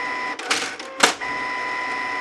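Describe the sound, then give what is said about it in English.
A printer running: a steady mechanical whine with two short, loud bursts of rattling feed noise about half a second apart, clear with no voices. “And then it crescendos and then it just title card and it just says printer.”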